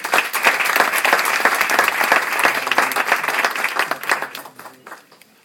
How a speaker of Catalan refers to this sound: Donem la paraula al regidor de promoció econòmica de l'Ajuntament, el Guillem Escolar. Un fort aplaudiment, sisplau.